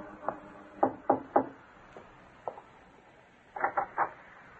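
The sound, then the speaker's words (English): A young lady knocking on the door of a young artist's studio, four flights up in Greenwich Village, New York, on an early spring evening. Scattered sharp raps in small clusters: first a single knock, then three quick ones, a couple of lone taps, and a final trio, with no voices. “In the early evening of a bright spring day, a young lady climbed the four flights of stairs to the studio of a famous young artist in Greenwich Village and knocked.”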